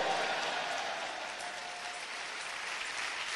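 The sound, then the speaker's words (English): An audience claps together in a dense, continuous wash of applause, steady and fairly loud throughout, with no clear individual beats and no voices standing out. “Now clapping for the love of your soul. Clap well.”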